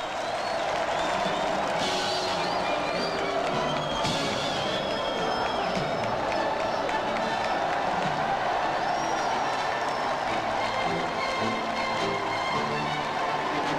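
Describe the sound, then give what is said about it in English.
A large crowd filling the Mall behind a police cordon roars and cheers in approval continuously, a dense wash of voices with occasional whistles and shouts rising above it, sustained and loud throughout. “Receives a roar of approval from the crowd.”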